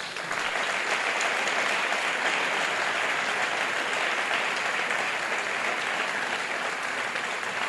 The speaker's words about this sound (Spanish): Un aplauso, por favor.